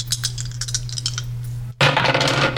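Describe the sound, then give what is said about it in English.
Two dice, rolled to pick a random sentence in a roll-of-the-dice round, rattle and clatter in a run of quick, bright clicks over a low steady hum, then a brief pause before a louder, denser burst of tumbling clatter. “We're going to go to our roll of the dice round where you're going to roll two die and read the random sentence that comes up.”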